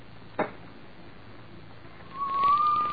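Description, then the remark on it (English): A soft, steady hiss like steam escaping a kettle fades in over the last second, carrying a thin, faintly rising whistle-like tone; a single faint click sounds early on. “A very gentle, soothing sound, like that of a small jet of steam escaping from a kettle.”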